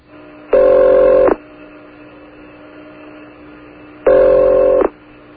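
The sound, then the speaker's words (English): Two buzzy ringback tones sound over a phone line as radio station WUSB in Stony Brook calls another radio station, each tone lasting under a second with a few seconds of quiet line hiss between them, heard as if through a telephone earpiece. “It's ringing.”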